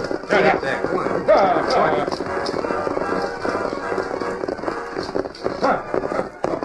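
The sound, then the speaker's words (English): Several horses stolen from the colonists are herded at a gallop in a busy, continuous, steady clatter of hoofbeats, with indistinct voices and rustling mixed into the noise. “Then, while the rest of the gang waited, Howling Bird and Whitey rode away, herding the horses they had stolen from the colonists.”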